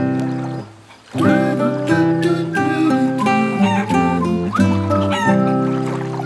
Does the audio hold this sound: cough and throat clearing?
no